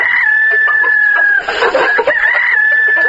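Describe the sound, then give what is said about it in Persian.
A dense chorus of chickens clucking nonstop at a poultry-raising farm for women in Sar-e Pol province, Afghanistan, with a rooster crowing partway through, all fairly loud, with a steady hum underneath. “اداره ویس آی دی به کمک وزارت زنان افغانستان، پروژه های قالین بافی و دیگر صنایع و فرم های پرورش مرغ و گوی شیری برای زنان را در ولایت سرپل سر و سامان داده است.”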